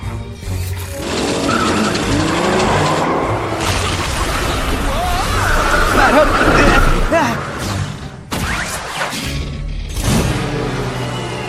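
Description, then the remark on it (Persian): A solar-powered car's engine revs up and tires squeal and skid as the vehicle speeds away, loud, with a brief pause before another burst of skidding near the end. “میشه لطفا بالونتو تکون بدی تا ماشین خورشیدیم بتونه راه بره؟”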